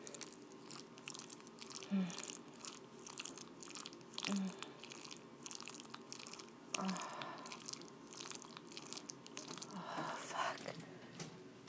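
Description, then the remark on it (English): Wet squelching sounds of a wet vagina with a glass dildo repeat in an irregular, fairly steady rhythm: soft sticky smacks and slurps with crackly clicks between them, kept at a low level with no talking. “My pussy sounds so sloppy. Have a listen.”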